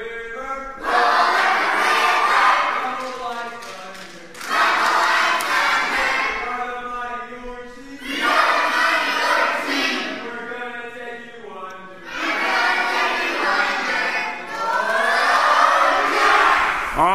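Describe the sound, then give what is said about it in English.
The orange team's crowd at a team competition gives a quick cheer, cheering loudly in four repeated bursts of about three seconds each, many voices yelling together in a rhythmic chant with brief pauses between. “Give us a cheer. Make it a quick cheer.”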